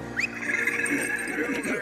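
A horse whinnies once, loud, starting with a sharp rise into a long, quavering high-pitched call that shakes and trails off after about two seconds.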